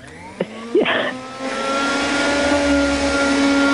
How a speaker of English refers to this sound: I just need to hoover up the sawdust.